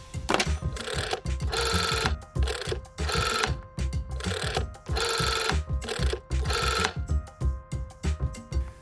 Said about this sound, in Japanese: それでは早速二戸市観光協会に電話をして聞いてみることにしよう。